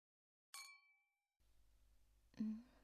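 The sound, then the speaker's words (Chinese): Glasses of red wine clink together once in a celebratory toast, giving a bright, clear ring that hangs in the air and fades, followed by a faint hum and a soft, muffled knock. “嗯，干杯。”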